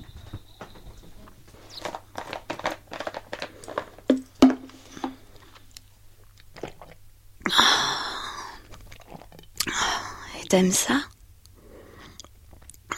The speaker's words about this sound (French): Tu veux m'entendre boire?